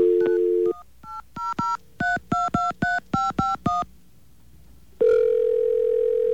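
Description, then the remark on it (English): A steady dial tone cuts off, then about a dozen quick touch-tone beeps are punched in an irregular rhythm, followed by a brief pause and a loud, sustained tone. “Did I dial it wrong? I dialed 355.”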